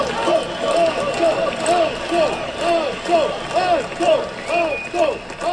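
A large crowd of participants at a gathering on a square in Slovenia claps steadily while chanting the nickname of a deceased man in unison, repeating it in a quick, regular rhythm over a dense wash of applause and cheering, as young people carrying banners cross the square.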